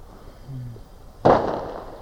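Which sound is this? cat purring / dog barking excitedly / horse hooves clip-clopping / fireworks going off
fireworks going off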